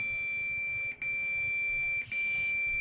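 The old version of Medtronic's heart monitor, currently on the market, sounds a steady, high-pitched electronic tone, broken by two brief gaps into long beeps. It is clear and prominent, with no talking.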